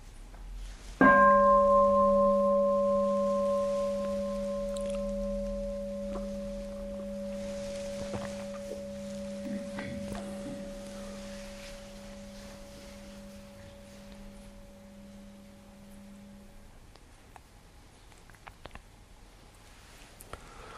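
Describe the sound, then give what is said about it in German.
A single bell is struck once and rings out with a long, steady, slowly fading tone that hums on for about fifteen seconds before dying away into quiet. “So, ich würde sagen, dann hören wir mal eine Glocke und dann kommt die zweite Frage.”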